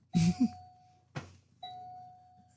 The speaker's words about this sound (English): It actually sounds like you have someone at your doorbell. It does. You might want to go check your door.